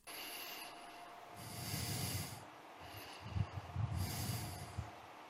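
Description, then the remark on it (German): Heavy, snorting breaths from a man just sitting, two long noisy huffs with a rough, rumbling low end, puffing like a steam locomotive. No one speaks. “Er sitzt nur und schnauft wie eine Lok.”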